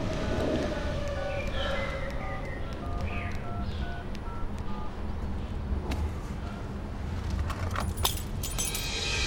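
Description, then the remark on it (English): A bunch of car keys drops from behind a car's sun visor into a man's lap and jangles, with a scatter of bright metallic clinks and a few sharper knocks toward the end, over a steady low engine-like rumble. “He idly looks behind the sun visor above the steering wheel and the keys fall into his lap.”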